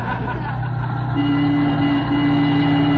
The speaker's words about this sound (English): Oh, look, we're getting close to town, McGee. How can you tell? We're sideswiping more cars.